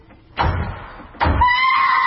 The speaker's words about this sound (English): All right, that's the front door. I'll go and see who it is.